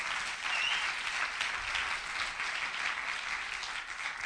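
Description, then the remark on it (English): Steady audience applause, sent as a round of applause back home to Bartlesville, Oklahoma: many hands clapping in a dense, continuous patter that holds at an even level for about four seconds without a break. “So I think send a round of applause back home to Bartlesville.”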